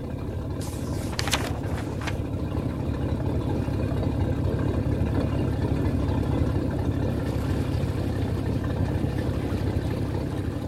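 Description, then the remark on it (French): A river boat engine drones steadily on the water, a continuous low rumble, with a few brief sharp clatters near the start. No one speaks. “J'arrive le soir à Iquitos, après de nombreux arrêts, changements de bateau et marche sur le Baradero.”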